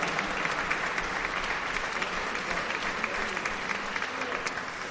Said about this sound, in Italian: Ringraziamo anche Max Marmiloli, che non c'è questa sera, che ci ha voluti qui e al quale io farei un applauso, lo sentirà quando gli arriverà.